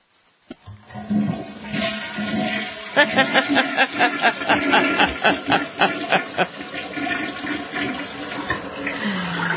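toilet flushing sound effect

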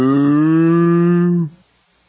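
cow mooing sound effect

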